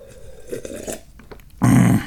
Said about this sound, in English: And while you're thinking, I'm going to take a sip of tea. I am drinking hot tea today.